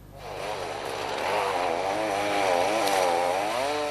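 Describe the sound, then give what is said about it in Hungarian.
A chainsaw runs steadily, its buzzing engine rising and falling in pitch as it cuts a channel through the ice of Lake Balaton so sunken Hummer vehicles can be pulled ashore, loud and continuous with no voices. “Motoros fűrésszel vágtak folyosót a Balaton jegébe, azon keresztül húzták ki a partra az elsüllyedt hammereket.”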